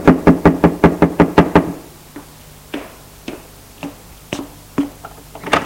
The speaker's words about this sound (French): Frappe à la porte.